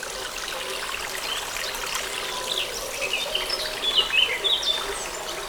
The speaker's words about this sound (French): Une source, un oiseau, et en fond, les sonailles.